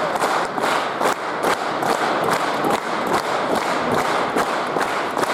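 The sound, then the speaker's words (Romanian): A large audience gives a standing ovation after the musical show Ciuleandra, based on Liviu Rebreanu's novel, applauding loudly and continuously, the clapping settling into a steady rhythmic beat roughly twice per second, with no voices standing out above it. “Sala aplaudă în picioare.”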